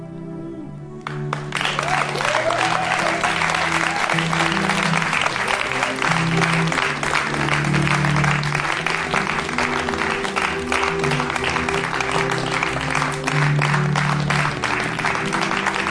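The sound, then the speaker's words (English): An audience breaks into loud, sustained clapping for a person called forward to receive a small gift, after a brief quiet start, a dense, steady patter that holds without fading to the end, with a low murmur underneath. “Wow, you're getting a good clap.”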